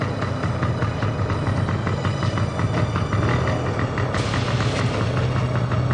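An old motorcycle engine runs steadily at night, a loud, rough idle with a rapid chugging pulse and deep rumble throughout, with no voices.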